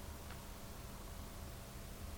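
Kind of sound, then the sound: nature, rain falling outside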